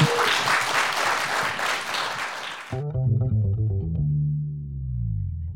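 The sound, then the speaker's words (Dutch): A burst of audience applause for a comedian, with dense, steady clapping for under three seconds, then it cuts abruptly to a loud electronic tune with heavy, effects-laden synth tones. “Geef een groot applaus,”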